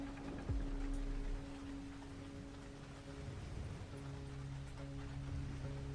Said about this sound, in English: The storm is getting worse.